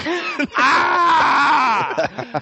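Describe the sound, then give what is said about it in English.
A person lets out a loud, drawn-out battle-cry scream in a mock attack, lasting over a second, framed by short voiced grunts before and after. “I want to make as much noise as possible. When I'm going to come down here screaming at them.”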